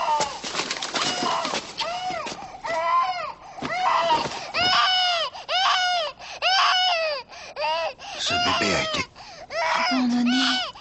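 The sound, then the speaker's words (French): A baby found among garbage cries loudly, wailing in a steady series of rising and falling bursts with brief gasping pauses between them, continuing for about ten seconds. “Les trois sans-abri trouvent au milieu des ordures un bébé, ainsi qu'une clé de consigne de gare.”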